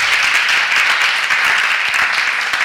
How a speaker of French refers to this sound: On peut applaudir, hein. C'est excellent.